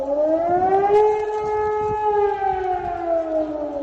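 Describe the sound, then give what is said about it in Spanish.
A loud civil defense siren wails steadily, its tone rising slightly and then slowly falling, with a low rumble of background noise and no voices. It sounds at 11 a.m. in all cities and towns of Germany during a nationwide test of the national alarm system. “Sirenas por todo el país, pero no te asustes, se trata de un simulacro, una prueba del Sistema Nacional de Alarmas que no se realizaba en Alemania desde tiempos de la Guerra Fría.”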